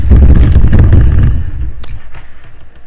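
A chair creaks and rumbles loudly for about a second with a dense, low, crackling clatter, then fades into quieter scraping, broken by one sharp click.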